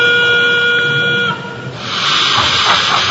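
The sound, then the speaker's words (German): The onboard digital sound module of a model railway train, playing from the train itself rather than separate loudspeakers, gives a steady, reedy horn tone for just over a second, then a loud burst of hissing steam takes over. No voices. “Durch die Digitaltechnik können nicht nur viele Züge gleichzeitig über eine Anlage fahren, sondern klingen auch noch täuschend echt.”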